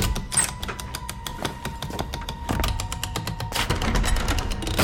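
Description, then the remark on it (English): A gold key rattles and clicks in the lock of an unornamented wooden door, a dense run of mechanical ratcheting and clunks, then the heavy door is pulled open with a faint creak. “And here is the wooden door.”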